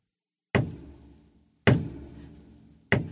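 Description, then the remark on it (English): Three heavy hammer blows strike a wooden church door about a second apart, nailing Martin Luther's 95 theses to the door of the Church of Wittenberg on October 31, 1517. Each is a sharp, loud crack followed by a deep, resonant thud that slowly fades. No voices. “As he nailed the 95 theses to the church door. And these blows of his hammer would be heard around the world.”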